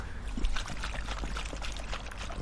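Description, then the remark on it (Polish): Acid sloshes inside a wet car battery, with continuous irregular splashing and gurgling at a steady moderate level. No voices are heard. “Ja nawet nie wiedziałam, że one tak chlupoczą.”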